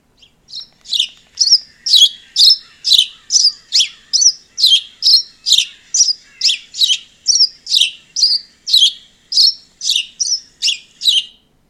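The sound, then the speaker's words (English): A house sparrow chirps over and over, a steady run of about two dozen bright, loud chips spaced evenly apart, heard clearly with no other sounds. “This bird is the house sparrow.”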